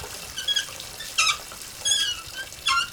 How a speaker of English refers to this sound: He takes a small tool from his pocket and fits it over the valve with a few sharp jerks.